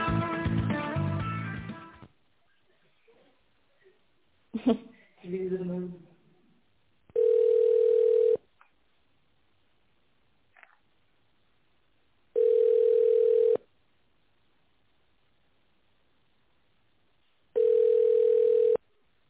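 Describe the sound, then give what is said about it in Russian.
A recorded voice on the Nordstar airline phone line speaks briefly, then a steady single-pitched ringback tone sounds three times while waiting for a secretary to answer, each buzz lasting about a second with roughly four seconds of silence between them. “Или дождитесь ответа секретаря.”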